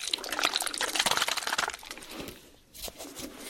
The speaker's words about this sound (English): And then a spray to lock it all in.